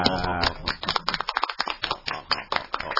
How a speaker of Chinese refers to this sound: 唔系，我就想话，即系不如咁样啦，我哋俾啲掌声俾各部门。